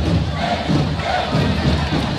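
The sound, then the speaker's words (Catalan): A street drum troupe (timbalada) heading toward Can Fals passes amid a loud, dense crowd, heavy drumming blending into continuous cheering and shouting with no clear pauses. “Anem a fer la prova de foc, tot i que em costarà escoltar-la, amb tota la timbalada que es dirigeix també cap a Can Fals.”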